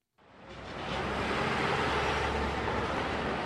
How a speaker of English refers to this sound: When you think of the streets of New York City, you think traffic. That means noise, of course, and pollution.